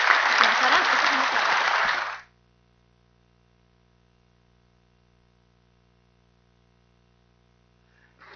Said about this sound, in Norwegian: Kan jeg gi deg igjen en stor klapp?